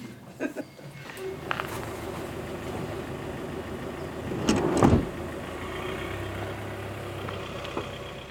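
A mobility-service taxi car (färdtjänst) idles and hums steadily, with a brief louder surge midway as it drives away, then a low rumble that continues to the end.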